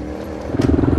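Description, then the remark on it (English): An off-road motorcycle engine drones as it climbs a hill, then revs harder and louder partway through as it strains up the slope, its rough throttle note pulsing steadily. “Zach has had very little motorcycle experience, very little off-road experience, and what do you know, he got up the hill.”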